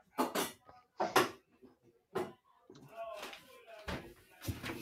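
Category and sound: household object, door being closed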